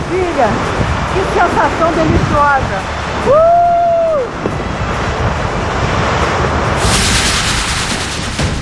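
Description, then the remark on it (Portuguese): Ocean waves heard from a clifftop: a steady, rushing roar of surf mixed with wind buffeting the microphone, with a brief whistling call and faint voice-like sounds early on, and the wash swelling louder near the end. “Olha como é lindo ver o mar daqui!”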